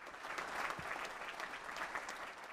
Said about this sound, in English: The crowd offered Spencer a standing ovation with seemingly endless applause.